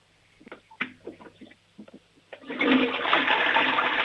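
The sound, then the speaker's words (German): A short run of clicks and clunks, like a handle being worked, then a loud toilet flush at a grandmother's home rushes in and keeps roaring steadily to the end. “Oh, die Oma hat eine tolle Klospülung.”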